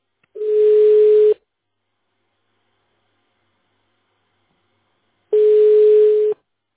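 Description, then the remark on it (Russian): Two steady telephone busy-signal tones, the dialed subscriber being on another line, each lasting about a second and separated by a long silent pause, with a faint hiss on the line. No one speaks. “The subscriber you have dialed is busy now. Please hold the line or call back later.”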